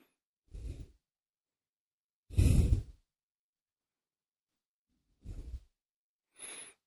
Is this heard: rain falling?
no